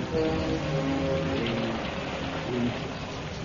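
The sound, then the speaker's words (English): Steady rain hisses continuously, a dense even wash of sound, with low murmuring voices faintly underneath; rain falling outside a small dispensary in a house with blown-out windows in a ruined North African town, where German soldiers on sick call huddle out of the rain. “In a small dispensary set up in a house with windows blown out, a group of German soldiers huddle out of the rain.”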